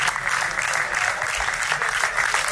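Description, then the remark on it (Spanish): Players and staff of the national team applaud steadily as departing coach Sergio Scariolo leaves the team's camp, a dense, even wash of clapping from a small crowd, loud, with no voices standing out. “Estos son los aplausos de los jugadores y del resto del staff, del equipo.”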